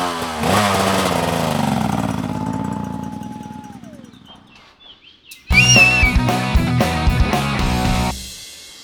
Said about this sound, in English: I'm going to have to jump on a motorcycle to catch up with the competitors, so I'll catch you in a minute.